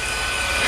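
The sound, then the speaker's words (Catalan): A vacuum cleaner runs with a steady, loud, hissing whine, its level constant throughout the short burst with no voices present. “És una aspiradora. Estem passant l'aspiradora...”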